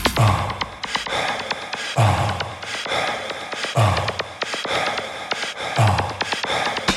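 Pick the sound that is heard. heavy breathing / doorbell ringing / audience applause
heavy breathing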